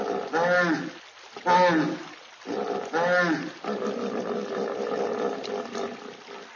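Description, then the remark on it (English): A hippopotamus lets out three loud, deep grunting roars in quick succession, followed by a rumbling, wet-sounding bellow that continues steadily. “Are there hippos at the zoo? Yes, there are.”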